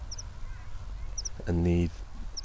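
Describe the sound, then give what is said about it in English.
Outdoors in the Derbyshire Peaks on a sunny but partly cloudy day, with crickets, sheep and birds around, a single loud, nasal honking call rings out midway against a steady background, with faint high chirps repeating every second or so. “and the sheep possibly in the background and the birds.”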